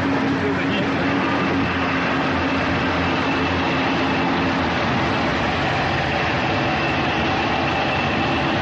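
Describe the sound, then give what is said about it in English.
A loud, steady roar of oil field gas flares beside a river in the Delta of Nigeria, a dense rushing noise that holds unbroken for the whole stretch with a faint low hum running underneath. “Turn another bend, and you can hear the roar and feel the heat of gas flares.”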